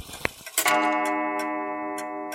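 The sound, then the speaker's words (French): A clock ticks steadily, then strikes half past seven with a single chime that rings out and hangs in the air with a long, bright, humming decay while the ticking continues beneath it. “7h30 sonne.”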